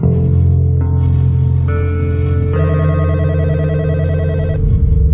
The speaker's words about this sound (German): Bei Spitzers in den Niederlanden klingelt das Telefon.